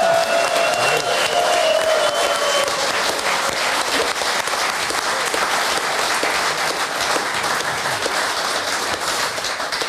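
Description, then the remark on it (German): Sustained audience applause for the local Heimatverein (heritage society) at an event held in a faithfully preserved old building, a dense steady wash of many hands clapping at even loudness, with a brief whistle-like tone near the start. “Und einen großen Applaus auch für unseren Heimatverein, weil so eine Möglichkeit zu haben, in so einem Hus zu sitzen und hier in so originalgetreue Gebäude auch sowas zu machen, das passt einfach fein hier hin.”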